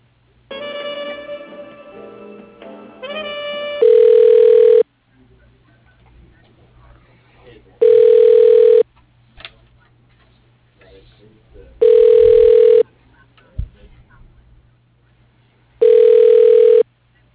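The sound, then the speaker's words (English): A telephone rings on the line four times while an automated phone directory tries a sales extension, each steady ringback burst about a second long and spaced evenly several seconds apart, following a brief voice at the start. “Please hold on while I try that extension.”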